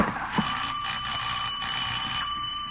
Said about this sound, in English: Doorbell!